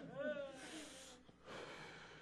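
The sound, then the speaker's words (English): A loud deep breath: a brief voiced gasp, then a long airy inhale, a short pause, and a long breathy exhale. “Slow down, take a breath, breathe.”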